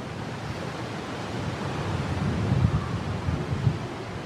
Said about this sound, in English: And... one more gust. There it goes. Perfect.